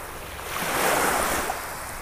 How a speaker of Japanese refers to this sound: 波の音色を聞きながら脱力、リラックスできたでしょうか。